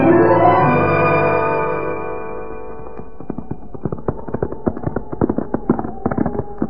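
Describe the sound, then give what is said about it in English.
A sustained musical chord fades out, giving way to horses' hooves clip-clopping in a quick, uneven rhythm, steady for several seconds with no voices. “I'll get the horses right now, Hoppy.”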